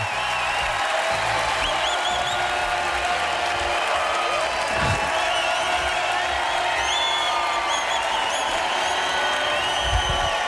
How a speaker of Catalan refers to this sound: Déu-n'hi-do, eh? Déu-n'hi-do, nois. L'ovació del públic que omple de sal el Coliseum.